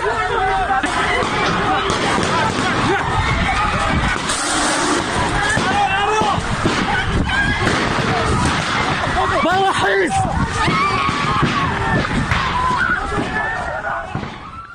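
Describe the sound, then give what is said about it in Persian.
A dense, chaotic crowd of many voices shouting and screaming at once, loud, with scattered sharp bangs and commotion throughout, continuing steadily, as special unit security forces raid a gathering of medical students inside the Kurdistan University of Medical Sciences on 7 Aban, firing tear gas and shooting. “همینطور گاز اشک‌آور به سوی اونا شلیک کردند، تیراندازی هم کردند. بشنویم صدا رو.”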